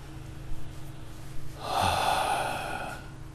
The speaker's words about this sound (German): Mal voll tief atmen und dann achten wir mehr auf das Ausatmen, auf das Loslassen.